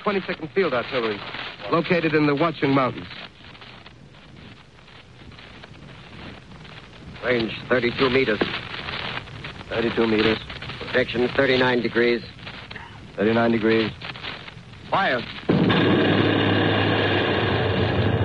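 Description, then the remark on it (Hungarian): A man speaks urgently, then a loud cannon blast from a 22nd field artillery position in the hills around Morristown erupts near the end, its roaring rumble sustained and filling the sound to the close; the first shot misses its target. “Az első lövés céltévesztett.”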